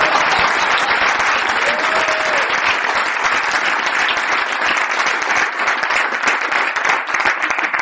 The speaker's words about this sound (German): Aber jetzt geht es hier nicht um mein Gerede, sondern jetzt mal bitte den richtigen Applaus für die gesündesten Menschen der wichtigsten Stunde.